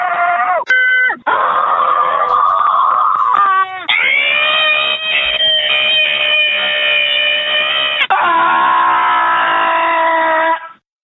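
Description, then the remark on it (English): A loud montage of people screaming into a phone line, posted online by justscream.baby: one long, sustained, high-pitched shriek after another, spliced together with abrupt cuts and shifting pitch, with no talking in between. “They will actually put your screams on the internet. Pure screams.”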